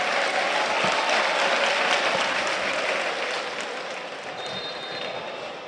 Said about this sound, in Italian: Adesso esce anche Brenner, evidentemente non ha più bisogno di spremerlo Spalletti, che gli applausi sono di tutti gli juventini in tribuna che potete sentire in sottofondo.